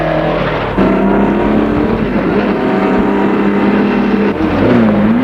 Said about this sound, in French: Coup, elle est réveillée par un bruit de moto. Qui passe devant elle.